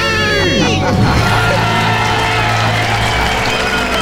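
crowd cheering and screaming

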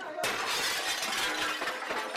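glass being smashed

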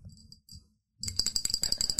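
typing on a keyboard

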